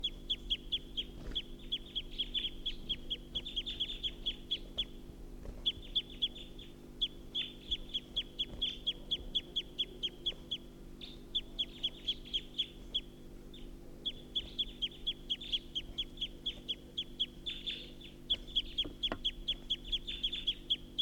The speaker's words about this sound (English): So recording, this is a wild bird perched at the tall pine.